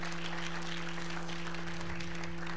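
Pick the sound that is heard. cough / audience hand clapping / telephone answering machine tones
audience hand clapping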